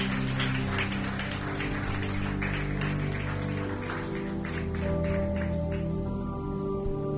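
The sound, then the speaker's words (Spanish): A church audience applauds at a preacher's call to applaud Christ, in a dense, steady burst of clapping that lasts several seconds, with sustained musical tones humming underneath. No one speaks. “Den un aplauso al Cristo que mora en el corazón”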